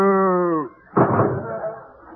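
A single short, steady moo that tapers off at the end, followed after a brief pause by a loud, noisy burst like a door slamming that fades out.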